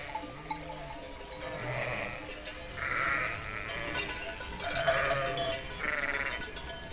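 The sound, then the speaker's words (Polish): Shaggy sheep walking along a sunlit mountain path bleat several times, about four nasal, wavering calls of moderate loudness spaced a second or two apart, over a steady low hiss of outdoor background noise. “Na ścieżce wijącej się zboczem skał i upłasków, rozpalonej prosto na nią padającymi promieniami południowego słońca, szły kudłate owce z nosami spuszczonymi ku ziemi, ciężko dysząc i robiąc bokami i nie dbając na okrzyki juchasów i naszczekiwanie psa”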